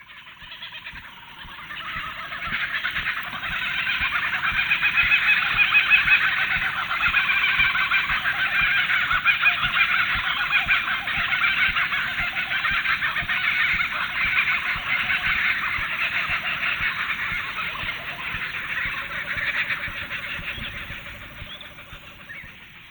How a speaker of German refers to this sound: So, das war das Zwitschern eines Vogels namens Jägerliest auf Deutsch scheinbar. Besser bekannt ist er als Lachender Hans oder auch Laughing Jack oder auch seinem offiziellen Namen in Australien, der Kookaburra.